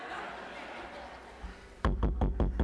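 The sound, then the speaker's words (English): After a stretch of murmuring room noise, a rapid burst of about six loud knocks, like someone pounding urgently on a door in quick succession. “If this fool keeps knocking on the door like that, he's gonna wake everybody up in the house and stir up and cause commotion.”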